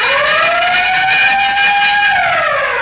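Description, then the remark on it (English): A loud, steady siren wail with bells, played as a sound effect, holds its pitch for a couple of seconds, then starts to wind down at the end, with a busy clattering edge over the tone and no voices. “Say, Ray, could we have that siren and bell again?”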